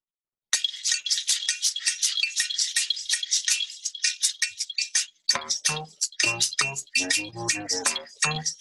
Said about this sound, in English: So I've got the bass clarinet going through some weird kind of loop also. Oh, yeah, dude. Weird kind of effect.